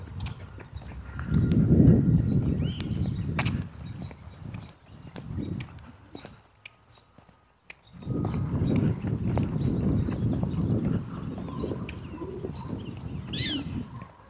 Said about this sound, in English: Oh, they're still out there. I don't know where they are, but they're still out there. That chirp was a prairie dog.